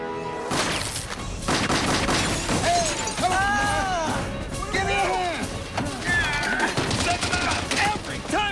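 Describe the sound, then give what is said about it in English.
A relentless volley of gunshots fired by Elwood and Dennis at a cabin rattles on for several seconds, dense sharp cracks mixed with shattering and splintering impacts of bullets hitting the cabin, while wavering shouts or cries rise and fall over the barrage. “Elwood and Dennis are subjecting the cabin to an unrelenting volley of bullets.”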